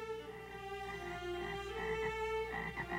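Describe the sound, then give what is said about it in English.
A dense chorus of frogs croaks steadily throughout, many overlapping calls forming a continuous, buzzing drone with rhythmic pulses, moderately loud, with no voices. “Jesus sent many frogs to Egypt. The frogs were everywhere.”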